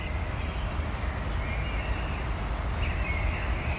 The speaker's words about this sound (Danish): Men jeg har optaget den her til morgen. Jeg håber, at den er god. Den er fra 20:05 hjemme i mig i morges. Og det var en dejlig lyd. Kan du høre det? Jo. Fugle, der går amok.